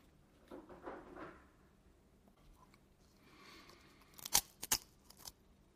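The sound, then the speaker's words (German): Soft munching gives way to a cluster of sharp, crisp crunches, three or four brittle bites in quick succession, with no one speaking. “Oh, es knuspert schön bei dir.”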